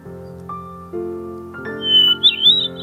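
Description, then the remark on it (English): A bird sings a rich, layered song with two notes sounding at once, steady tones shifting in steps before a bright, fizzing warble rises high near the end, fairly loud. “One of my favourite bird sounds.”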